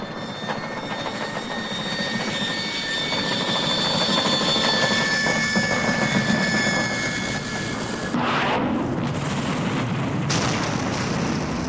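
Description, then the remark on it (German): A loud airplane engine drones with high whining tones as the plane glides down toward the water, then gives way near the end to a heavy crashing impact as it hits the water and breaks apart, and a rushing, roaring wash of noise, with no voices. “Das Flugzeug segelte langsam, aber sicher dem Wasser entgegen. Beim Aufprall zerbrach das Flugzeug.”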